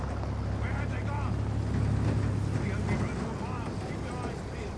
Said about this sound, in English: On the main road, the truck drives past, missing their trail.